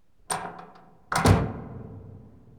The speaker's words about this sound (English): Door.